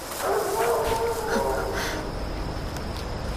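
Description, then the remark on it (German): A wolf howls in one long, wavering cry that rises and slowly fades over about a second, against a steady, noisy background. “Es klang wie ein Wolf.”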